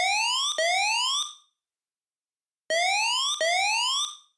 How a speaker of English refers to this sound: Most notable about this change in musical atmosphere is the use of a siren.